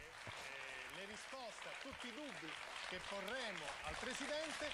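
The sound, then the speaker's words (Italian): Steady, dense audience applause greets guest Silvio Berlusconi, filling the whole stretch at an even level, with voices calling and talking over the clapping throughout. “Un applauso.”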